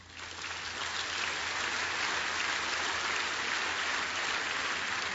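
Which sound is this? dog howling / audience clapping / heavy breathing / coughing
audience clapping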